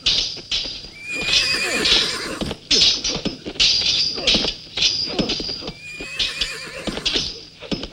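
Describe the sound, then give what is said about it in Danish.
Several horses of noble riders arriving in a long line whinny in shrill, wavering calls over a steady clatter of many hooves, loud and continuous, with no talking. “som bønderne lægger for dagen, når de klumper sig sammen om de måske få ryttere, der kommer, de få adelige ryttere, der kommer i en lang række.”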